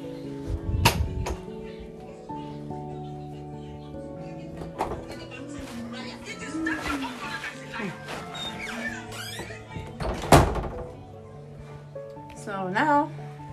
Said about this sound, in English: My door, my bathroom door locked.